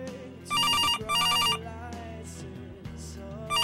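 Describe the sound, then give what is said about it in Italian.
A telephone rings in a loud double burst of electronic trills, with a pause before another ring begins, over a steady low background rumble. “Il telefono squilla, cerco di non farci caso.”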